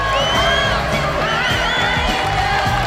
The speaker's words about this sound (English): As the film finishes, the audience rise to their feet and applaud.